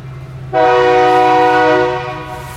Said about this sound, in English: That train. She's going in there. We'll give it a minute.